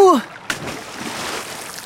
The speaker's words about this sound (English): It breaks and Oliver falls into the river.